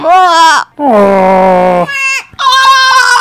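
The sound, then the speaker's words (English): A voice imitates the Wookiee growl of Chewbacca: three long, strained, wavering howls with a rough, bleating quality, loud and high-pitched, separated by short breaths. “I can speak his language.”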